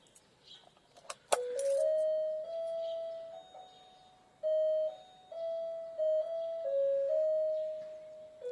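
A sharp click, then an electronic doorbell plays a long melodic tune of sustained, pure tones stepping between pitches, note after note for several seconds, with no voices.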